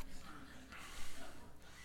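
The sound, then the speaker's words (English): A long, breathy exhale, demonstrating breathing onto a mirror to fog it up, a soft airy rush lasting about two seconds with a slight swell in the middle, no talking over it. “All right, you go home and you find a mirror, and you go like this. Now, if it fogs up, God's not done with you yet.”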